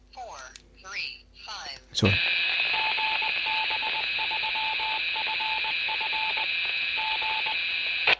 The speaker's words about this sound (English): So that was the repeater, GB3FF, that you were listening to there, the Morse ident, which that they transmit every so often.